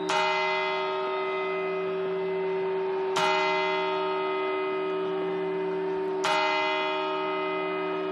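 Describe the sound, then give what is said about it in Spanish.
Three resonant New Year's Eve clock bell chimes strike at steady, roughly three-second intervals, each ringing out with a long sustained hum that carries into the next stroke, with no voices. “Pues justo hace prácticamente un año, en aquellas campanadas, nadie se podía imaginar lo que estaba por venir.”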